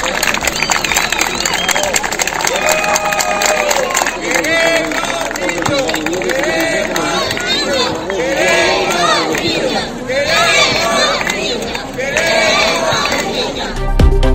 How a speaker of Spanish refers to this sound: Queremos niños, cantaban los vecinos.